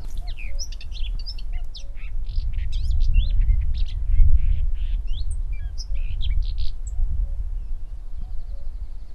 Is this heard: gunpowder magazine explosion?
no